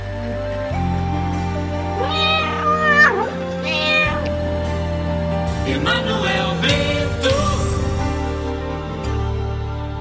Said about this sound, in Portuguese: Não faça isso com o gatinho, não, que o gatinho chora.